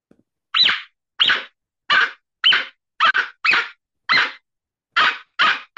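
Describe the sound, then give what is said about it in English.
A predator call imitates fox vocalizations with about ten short, raspy, bark-like yips in a loose, uneven rhythm, fairly loud and harsh. No one talks over them. “I'll remember his name at some point, but it's made to do like fox vocalizations.”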